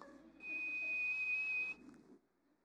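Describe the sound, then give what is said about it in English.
A single shrill, steady whistle blast rings out for over a second, loud, with a murmur of background noise underneath that fades after it stops. “And that Iguana whistle's fixing to blow, baby.”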